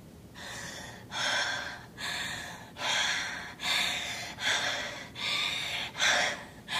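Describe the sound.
A dying man breathes with heavy, labored gasps in a steady rhythm, about seven harsh rasping inhalations and exhalations, fairly loud with no talking.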